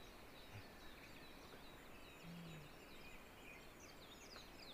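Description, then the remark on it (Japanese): Faint, rapid chirps of a Japanese white-eye (mejiro) flicker repeatedly at high pitch over a steady outdoor hiss, the small songbird twittering somewhere off in the distance, with no voices present. “はい、今こっちで細かくチュビチュビチュビって鳴いてるの、こっちでも今聞こえますね。これがメジロです。”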